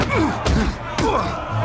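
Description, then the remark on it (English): Two heavy, dull punches land about half a second apart in a boxing match, each a sharp thudding body blow as one boxer ducks a punch and hits back, with voices murmuring underneath. “lands a body blow.”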